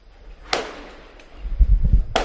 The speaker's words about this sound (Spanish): Perdona, ¿esos son petardos de San Juan ya? Son petardos de San Juan en Barcelona que están celebrando el triunfo de la selección española.